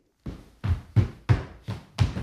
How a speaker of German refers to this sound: Theobald Trampel hält sich selbst für den genialsten Trampelisten der Welt und er trampelt den ganzen Tag, was das Zeug hält. Und das soll Musik sein? Boah, hören wir es uns halt mal an.